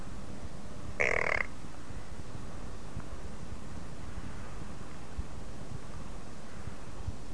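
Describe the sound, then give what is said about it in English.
A child's voice gives one short, nasal "quack" imitating a duck, a loud, buzzy burst lasting under half a second, followed by several seconds of quiet, breathy background rustle. “Let me hear the duck again.”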